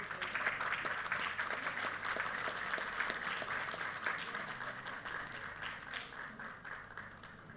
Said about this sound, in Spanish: Fuerte los aplausos.